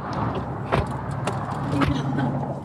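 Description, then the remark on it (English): Someone gets into a car to drive: a steady low rumble of the vehicle fills the background while a few sharp clicks and thumps of doors or mechanisms sound. “Should we just hop in my car?”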